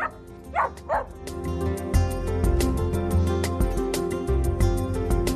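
A small dog gives two quick, high yaps near the start, then an upbeat music sting with a steady beat takes over and plays to the end.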